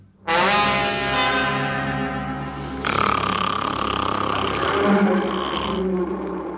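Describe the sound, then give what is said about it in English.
A monstrous dragon roar, loud, surges for about six seconds in two long, rumbling, throaty blasts with a deep growling edge, with no talking. “It was a dragon.”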